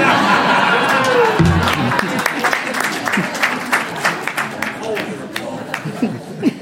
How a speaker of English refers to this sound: Hold the applause.